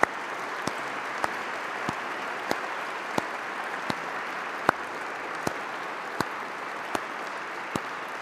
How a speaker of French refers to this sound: Que les lauréats veuillent bien se lever. Nous les applaudissons.